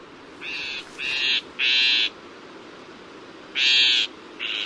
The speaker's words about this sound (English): In fact, some northern shrike songs include phrases that closely resemble the calls of some of their prey species, chickadees, sparrows, and other tender feathered morsels.